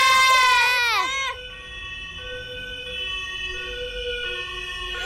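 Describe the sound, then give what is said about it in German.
Police car sirens wail as police cars approach, a steady, sustained tone at moderate loudness, opening with a brief burst of loud, falling, wavering sweeps before settling into a held pitch. “Wo kommen denn die Polizeiautos jetzt so plötzlich her?”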